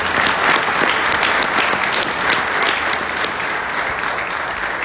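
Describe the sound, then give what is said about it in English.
A crowd at a Christmas celebration breaks into sustained applause, giving God a hand clap; many hands clap in a dense, steady roar at a fairly loud, even level from start to finish. “Can we give God a hand clap?”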